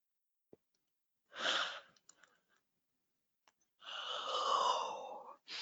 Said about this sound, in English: each time you hear … yawn, it is simply the energies rising